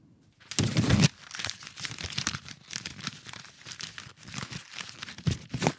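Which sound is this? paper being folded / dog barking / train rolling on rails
paper being folded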